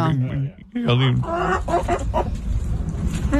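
Chicken clucks arranged into a catchy tune, with bursts of squawky, pitched clucking repeating over a steady, busy backing that fills the short clip at a loud level.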